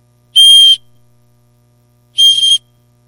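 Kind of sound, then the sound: signal or alarm, whistle being blown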